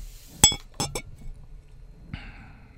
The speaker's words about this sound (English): So we're going to pour a little bit of absinthe.